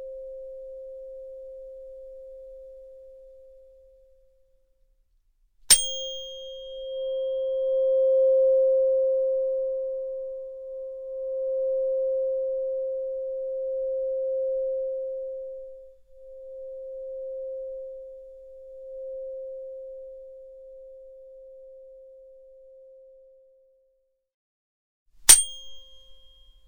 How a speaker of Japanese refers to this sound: この音叉の音、ソルフェジオ周波数って言うんだよ。この音は体の痛みを和らげるだけじゃないの。そう、心の痛みも癒してくれる。